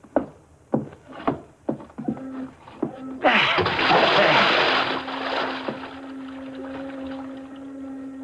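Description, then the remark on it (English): Several heavy, spaced thuds like footsteps as a man's body is carried to the edge of a pier, then it is dropped over the side into the bay with a loud splash that churns and slowly fades over a low steady hum. “I'm going to carry him to the edge of the pier and drop him over the side.”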